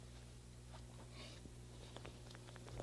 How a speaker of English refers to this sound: Rolling pin.